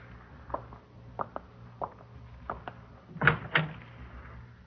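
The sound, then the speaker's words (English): A back door is handled, with several light clicks and knocks followed by two louder thuds as it swings open and shuts. No one speaks, and a low background hum runs underneath. “Out the back door.”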